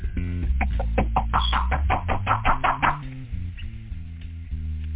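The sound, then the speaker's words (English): A rapid run of about a dozen sharp knocks on a door over roughly two and a half seconds, above a steady low musical hum that continues after the knocking stops. “Fellas, see who that is right there at the door. They're knocking at this time right now.”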